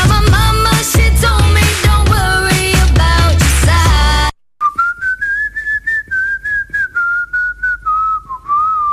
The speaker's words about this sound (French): Alors si c'est ça, waouh, ça marche non? Ben on vient d'avoir la femme qui siffle moins bien au monde.